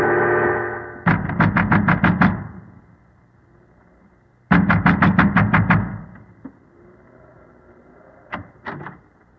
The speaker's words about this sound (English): A man wrapped in an oilskin and wearing gigantic boots was pounding at the door of the windmill.